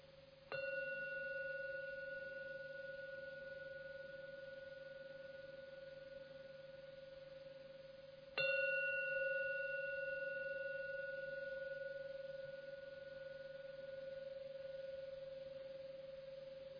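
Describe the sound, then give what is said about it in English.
A gong is struck twice to end a meditation, about eight seconds apart, each stroke ringing out in steady, shimmering tones that slowly fade. No voices are heard. “Now I'm going to ring the gong to end the meditation, so please listen as usual to the three ringings of the gong.”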